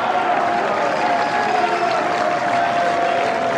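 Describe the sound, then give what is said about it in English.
A large crowd cheers and applauds steadily for several seconds, a dense, continuous roar of clapping and voices with a faint sustained tone running underneath, loud and unbroken throughout. “we need to find out where this cheering is coming from, because that is where we need to base ourselves.”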